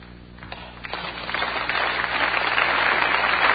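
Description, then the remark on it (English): Audience applause starts with a few scattered claps, then swells into a steady, dense wash of clapping that grows louder and holds to the end, with no voices over it. “Yeah, whatever, they clap.”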